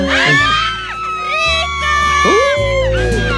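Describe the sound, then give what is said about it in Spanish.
A studio audience shouts and cheers loudly and continuously, many overlapping voices whooping and yelling, with excited high-pitched cries rising and falling throughout. “¿Miren lo que le grita a la gente?”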